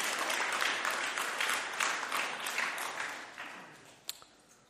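An audience applauds with dense, steady clapping that gradually fades out over several seconds, ending with a single sharp click and a faint tail of scattered claps.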